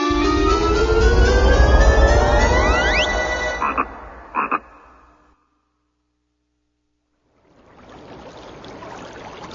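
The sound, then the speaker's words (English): A frog croaks loudly in a few short bursts over a dense, rising outdoor din, then everything falls silent before a soft rushing noise fades in. “A frog eats the grasshopper. The frog grows bigger.”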